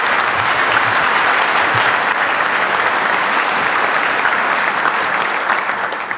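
Sustained audience applause welcoming a speaker to the stage at a talk, a dense steady clatter of many hands clapping at a loud, even level for several seconds, tapering slightly at the end, with no voices over it.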